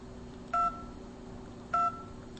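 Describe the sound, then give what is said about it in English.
Two short, clear phone keypad dialing tones, each a steady dual-pitched beep, sounding about a second apart over a low, steady background hum, as the digits of a weather number are dialed one button at a time. “So the way we do that is we just move to each one. Three. Button. Two. Button. One. Button.”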